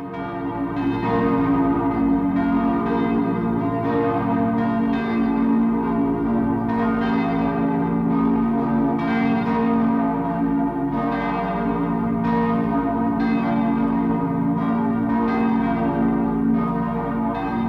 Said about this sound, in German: Glocken läuteten die Weihnacht ein.